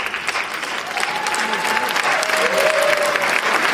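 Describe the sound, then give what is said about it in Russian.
An audience at a concert applauds with dense, steady clapping that holds loud and continuous for the full few seconds, a faint voice or call briefly threading through the middle. “Я уже благодарю вас за аплодисменты, потому что очень многие люди, конечно,”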